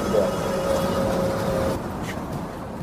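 A paraplegic wheelchair user boards a public bus for a ride from Tukwila to the South Downtown neighborhood in Seattle. A steady mechanical whine from the boarding ramp runs over idling engine rumble for about a second and a half, then stops and the noise settles lower.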